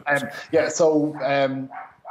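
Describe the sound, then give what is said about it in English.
A female dog named Juno barks excitedly and repeatedly after someone knocks at the door, loud bursts in quick succession with one longer, drawn-out yowling bark in the middle. “And sorry, my dog is barking in the background.”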